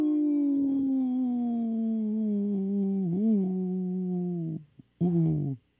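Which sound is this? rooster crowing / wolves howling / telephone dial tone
wolves howling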